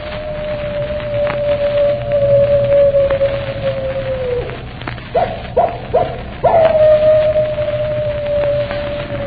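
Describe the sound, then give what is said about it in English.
A long, drawn-out howl of a wolf dog, the animal of the man in black, holds a steady wavering pitch, briefly breaks into a few short yelping bursts, then resumes its sustained cry over a low, rumbling background. “And they say if you keep your ear to the wind, you can hear his animal howl a hymn of death.”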